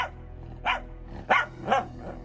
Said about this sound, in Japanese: ナバギが吠え出し